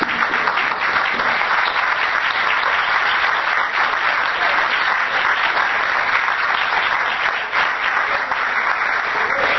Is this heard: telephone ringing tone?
no